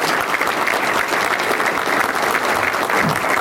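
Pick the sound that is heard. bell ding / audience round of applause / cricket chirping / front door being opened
audience round of applause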